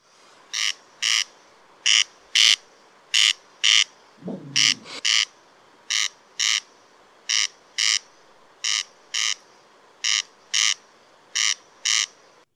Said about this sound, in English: The Corn Crake, Crex, a bird belonging to the rail family, which is a large family that includes small, medium-sized